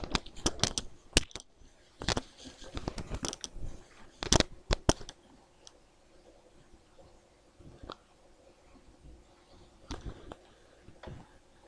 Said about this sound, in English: There are dolphins.